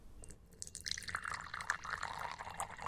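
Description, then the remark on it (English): Lemonade pours steadily into a glass, a bright splashing stream with scattered drips that grows fuller and a little louder as it goes, heard on its own without voices. “Lemonade coming right up.”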